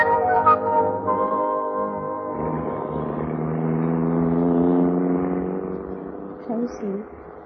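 A car engine hums steadily on an island, its tone shifting slightly as the vehicle pulls away, with a brief voice-like sound near the end.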